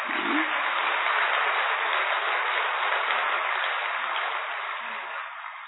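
A large gathering of young people at a great yajna claps steadily in a dense, continuous wash of applause that holds for several seconds, then eases slightly toward the end. No voices stand out.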